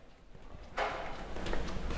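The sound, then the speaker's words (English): A door lock clangs as it is unlocked by pressing a button: a sharp metallic clank after a brief quiet moment, followed by a lingering rattle and a second, lighter click. No one speaks. “But when you hit that button to unlock the door so you can get out, there's this little clinging sound. It almost sounds like a tinkling of a bell.”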